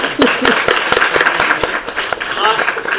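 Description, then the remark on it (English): An audience breaks into applause for a man who turned 60 on Saturday: many hands clapping in a dense, steady patter that holds at an even level for about three seconds, with a few voices faintly mixed in. “So can we applaud him?”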